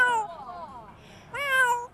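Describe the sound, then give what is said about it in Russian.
A ten-year-old parrot at a zoo in South Korea mimics a cat's meow twice: a drawn-out falling mew, a brief pause, then a higher, brighter second meow, clear with no talking. “Его тренер говорит, что птица может пародировать и компьютерные сигналы, и человеческий голос, и даже мяуканье кошки.”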